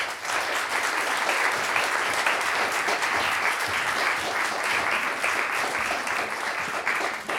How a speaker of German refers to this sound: Bitte begrüßen Sie mit einem großen Applaus Antje Ravik-Strubel.